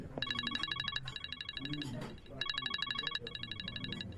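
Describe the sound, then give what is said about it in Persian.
A telephone rings in two double bursts of bright, electronic trilling tones, fairly loud, while people talk quietly underneath. “چقدر تلفن کردی تو؟ دیوانم ساختی.”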